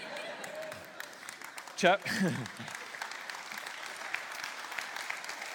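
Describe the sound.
An audience claps steadily throughout, a dense rattling wash of many hands, with a brief cheering voice rising out of it partway through.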